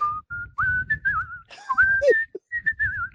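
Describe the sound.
A person whistles a lively pop melody, bright sustained notes with bends and short phrases, clear, with a faint low background underneath.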